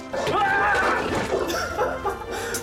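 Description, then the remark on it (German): A heavily feathered chicken clucks in a quick, fairly loud run of squawky notes, with a burst of agitated calls near the start and softer clucks trailing off after. “Wo ist nur das Huhn unter all den Federn?”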